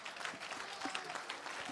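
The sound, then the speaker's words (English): Steady applause from a crowd, many hands clapping in a dense, continuous patter with no voices standing out over it. “A round of applause.”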